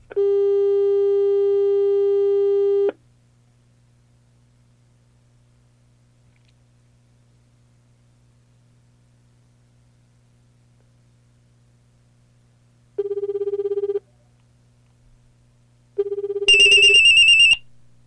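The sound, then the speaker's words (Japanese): A telephone tone plays through a speakerphone for about three seconds as a call to the L Shop is placed from a phone's phone book. After a long quiet stretch with a low hum, shorter ringing tones return, ending in a brighter, louder electronic beep. No one speaks. “それではこの L ショップの方に電話をかけてみましょう。スピーカーフォンを押してみます。”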